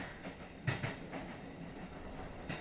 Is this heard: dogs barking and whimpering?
no